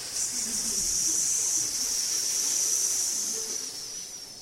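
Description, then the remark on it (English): A steady, sustained hissing voiced by a person imitating venomous snakes, bright and airy, holding at an even loudness for several seconds before easing slightly at the end. No speech accompanies it. “I've called snake charmers, and the more they chant their mantras, the louder the snakes hiss.”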